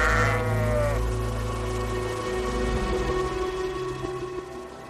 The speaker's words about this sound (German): Viel lauter hört man die blökenden Islandschafe überall.